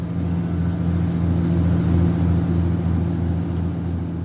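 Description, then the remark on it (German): A steady, deep diesel engine drone fills a worn suburban commuter train carriage on a journey to Manchester, with a strong low hum and constant rumbling noise that holds at an even loudness throughout, no voices present. “Dumpfes Wummern der Dieselmotoren im abgenutzten Waggon des Vorortzuges.”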